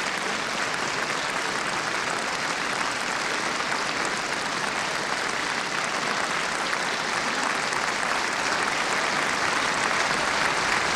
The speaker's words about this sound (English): Back on stage once again, Mr. Schwartz is now warmly applauded by members of the orchestra as well as this very enthusiastic audience here in Ambassador Auditorium.